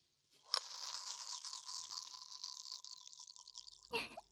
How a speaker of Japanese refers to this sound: ね？いい音するでしょ。中でコロコロさせていると、たまにカランカランってラムネの瓶に当たって気持ちいいでしょ。